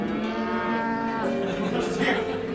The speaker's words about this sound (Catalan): Surt al camp de davant de casa, sí, on sempre hi pasturen vaques, i els hi canta peces de Mahler.